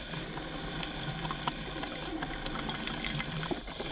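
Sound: water bubbling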